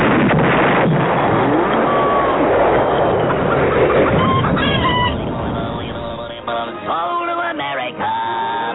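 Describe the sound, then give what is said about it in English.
A person imitates a bird, loudly: a long raspy screech gives way to a string of shorter, pitched squawks and clucks, like a rooster or hen. “Oh, Professor, you want it more like a bird.”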